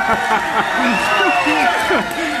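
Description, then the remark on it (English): An audience at a religious feast cheering, a dense, steady wash of many overlapping voices shouting and calling out at once, loud and sustained throughout with no single speaker standing out. “still cheering?”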